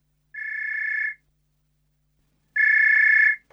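A telephone rings twice, each ring a steady, buzzing electronic trill lasting under a second, separated by a pause of silence. Close and clear, with no voices.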